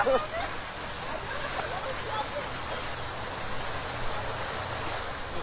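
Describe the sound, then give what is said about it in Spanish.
Steady rain pours down in the corregimiento of La Pampa in a dense, even hiss that holds at a constant level for the whole stretch, with a faint voice briefly audible beneath it. “¡Mira, llueve!”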